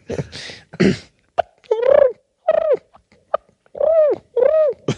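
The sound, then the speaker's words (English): A person imitates a turkey purr: a couple of breathy bursts, then four warbling, rolling calls that rise and fall in pitch, separated by short pauses, fairly loud and without talk. “Just hit me one more turkey purr.”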